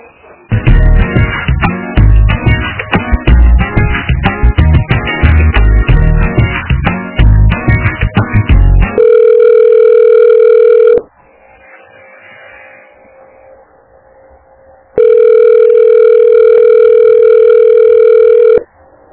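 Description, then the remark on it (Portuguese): A rapid stream of telephone keypad beeps as a number is redialed, followed by two long, steady tones of a busy phone line separated by a few seconds of quiet. Loud, with no voices. “Deixa eu tentar de novo, acho que ela tá no telefone, só um pouquinho.”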